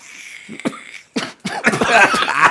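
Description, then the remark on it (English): A harsh coughing fit after inhaling from a CBD vape: a few separate rough coughs, then a rapid run of raspy, strained coughs near the end, with no talk. “Don't inhale. Don't inhale. If they make you cough.”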